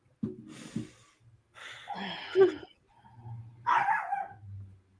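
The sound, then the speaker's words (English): A person yelps and whines in short, strained bursts that imitate a barking dog, with snorting breaths between them, loud. “He sounds like my doggy, or she.”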